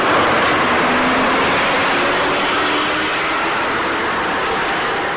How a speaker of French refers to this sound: Un gros tracteur qui arrive jusqu'à nous.